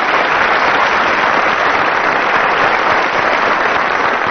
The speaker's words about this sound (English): I suppose you'd better applaud the teams then. Tim Brooke Taylor and Willie Rushton on my right.